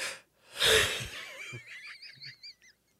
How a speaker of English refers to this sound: Always. This always happens. You didn't yawn the whole time, the whole post show. It's like my face knew. It knew that we had three, to keep two, it together. Don't even make me yawn again.